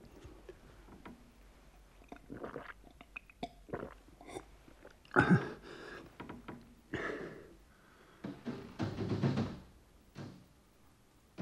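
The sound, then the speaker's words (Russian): Irregular knocking on a window, a scatter of sharp taps and heavier thumps that come and go for several seconds, with brief louder flurries and no voices. “Слышите? Кто-то стучит в окно.”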